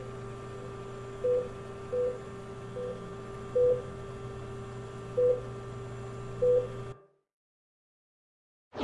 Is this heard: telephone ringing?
yes